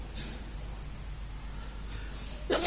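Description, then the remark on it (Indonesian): A single sharp, loud sneeze bursts out right at the end, following a few seconds of quiet hum with no talking. “Alhamdulillah. Hadikumullah.”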